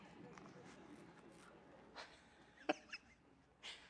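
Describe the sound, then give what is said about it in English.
A single abrupt sneeze bursts out from someone in a crowd, short, followed by a couple of smaller rustling sounds against a low, steady hum. “Bless you.”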